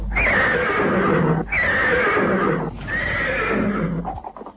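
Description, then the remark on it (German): A horse neighs loudly three times in quick succession, each whinny a bright, quavering, cheerful cry that rises then trails off, clear with no talking; used as a radio jingle in Bremen from 1980 announcing short programmes of no more than 5 minutes. “Dieses fröhliche Wiehern war zunächst eine ganze Woche lang täglich zu hören und kündigte kurze, nicht mehr als 5 Minuten lange Sendungen an.”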